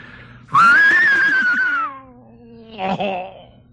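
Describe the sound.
A human voice imitates an English horse whinny: a loud, high, quavering cry that rises and then slides downward for over a second, followed by a short, rougher burst.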